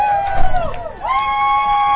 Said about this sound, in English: And there's a crowd noise. Well, and we are also in the same facility as the Beverly High School coaches, who are about 15 feet down to our right, so you may hear some of them as well.